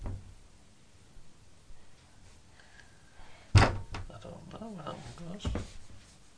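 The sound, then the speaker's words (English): A single sharp thump of a head bumping against a door rings out once, loud, amid a fairly quiet setting, with faint voices murmuring before and after the knock. “Bang my head on the door.”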